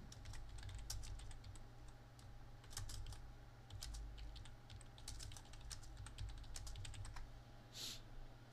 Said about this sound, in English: You hear me typing.